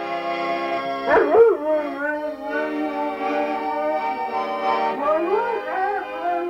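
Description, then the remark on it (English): A dog howls and yips along with a steadily droning accordion, trying to match its tone, its wavering, sliding cries rising over the sustained chords in two bursts, one early and one near the end. “But it is kind of amazing on when you play the accordion that he will try to, you know, match up the tone on it.”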